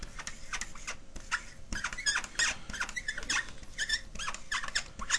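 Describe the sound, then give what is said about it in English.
A marker squeaks steadily against a board in quick, uneven strokes, a run of sharp, high scratchy chirps, with no voices. “Squeaky marker membership sites.”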